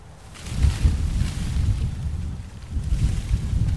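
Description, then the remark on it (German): Gusty wind blows steadily across the green roof of a publishing building in Berlin, moving herbs and small bushes rooted in substrate and soil; a dense low rumble with swelling gusts and a faint airy rustle, no voices present. “Kräuter und kleine Büsche wehen hier im Wind.”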